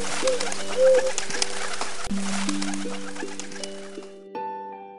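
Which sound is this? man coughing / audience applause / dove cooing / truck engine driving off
dove cooing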